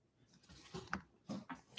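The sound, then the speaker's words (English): A zipper is pulled in a couple of short, scratchy strokes, fairly quiet, with small clicks and rustling in between and no one speaking. “The audio go capture everything you do. So if you go unzip, you gotta zip it there.”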